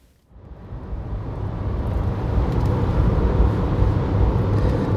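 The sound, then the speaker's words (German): A car's steady engine and road rumble rise quickly from near silence, then hold at a constant loud drone, like riding inside or beside a car cruising at speed on a rural road with little traffic past huge fields, on a drive of over 100 kilometres from Steinbach to Winkler in the Rheinland district. No voices. “Das Fahren von über 100 Kilometern von Steinbach nach Winkler zieht sich sehr lange hin.”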